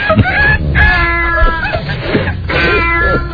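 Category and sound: bird, rooster crowing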